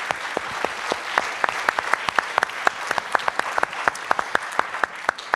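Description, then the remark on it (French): An audience claps steadily for several seconds for team members being thanked, a dense wash of many hands with sharper individual claps popping out, sustained without any talking. “Je vous demande de les applaudir s'il vous plaît.”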